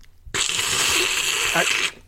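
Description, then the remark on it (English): A long, loud slurp of a hot chocolate drink, one continuous airy, hissing suck lasting about a second and a half, then stopping abruptly, with no talking. “I can't stand that slurping noise you're making.”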